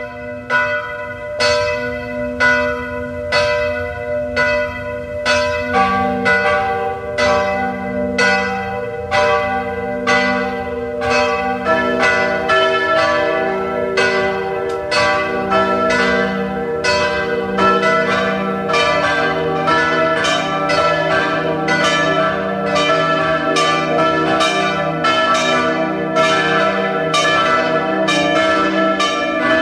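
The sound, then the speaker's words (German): Several large church bells of the pilgrimage church Maria Hilf in Ebenthal near Klagenfurt peal continuously at 12 noon, their overlapping strikes building into a dense, resonant ringing that stays loud and steady throughout, with no voices present. “Sie hören die Glocken der Wallfahrtskirche Maria Hilf zu Ebenthal bei Klagenfurt.”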